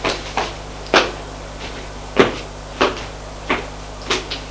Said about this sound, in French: Et frappe à une porte. Entrez. Il entre. C'est le bureau du grand patron du Quai des Orfèvres.